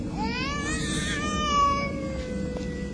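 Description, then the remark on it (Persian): A baby cries in one long, drawn-out wail that rises in pitch and then holds steady over a low, constant background rumble with no talking. “پس چرا آرام نشد؟ شاید این گریه و نارامی دلیل دیگری دارد.”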